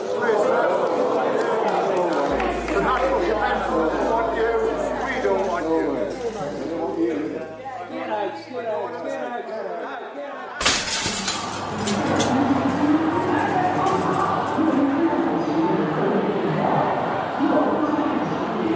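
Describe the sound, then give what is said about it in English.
A large crowd of people sitting in the main arrivals hall of Hong Kong airport murmurs and chatters, then abruptly erupts into loud, sustained cheering and shouting about halfway through, with clinking sounds mixed in. “I'm here in the main arrivals hall of the Hong Kong airport, and there's a crowd of people just sitting here. They break into cheers.”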